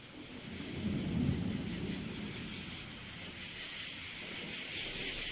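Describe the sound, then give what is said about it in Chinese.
A deep roll of thunder swells in the low end, peaking early and then slowly fading into a steady hiss of rain and wind, with no voices present. “拜托，不要再打雷了啦！”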